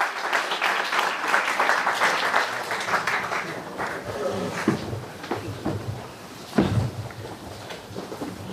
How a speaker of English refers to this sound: Let's give a nice loud round of applause to world-renowned lecturer, Rabbi David Orlovsky.